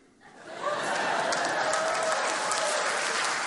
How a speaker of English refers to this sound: No, spare me your false applaud. I know it's in your hearts.